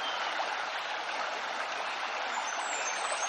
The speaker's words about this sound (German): Lausche dem Klang des Wassers.